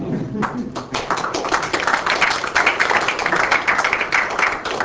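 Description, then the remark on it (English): A short round of clapping from a small audience after a brief scientific talk on magnetic fields and dynamos, uneven and scattered rather than a full ovation. It stays steady for a few seconds at moderate loudness, with faint murmuring underneath. “Four claps.”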